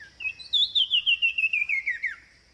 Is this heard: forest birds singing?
yes